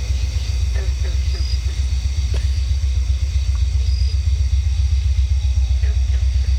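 A train rolls by on the old Illinois Central tracks with a heavy, continuous low rumble and steady roar, thin high-pitched squealing tones drifting above it throughout.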